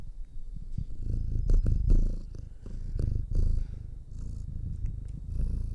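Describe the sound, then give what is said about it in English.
A male cat purrs steadily, a low rumbling vibration pulsing in a continuous rhythm with occasional soft rustles, with no talking over it. “Oh, I think he's purring.”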